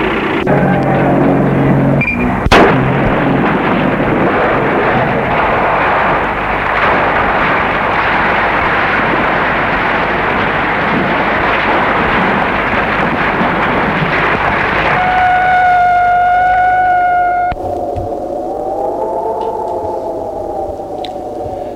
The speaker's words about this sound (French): le camion a explosé, il a roulé sur une mine. Une mine qui a été mise pour qu'il ne reste rien des assassins.